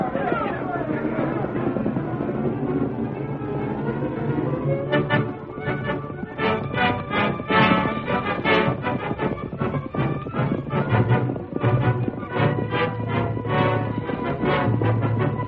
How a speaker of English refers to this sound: Spurring and whipping their horses, Dade and his men swept up the trail.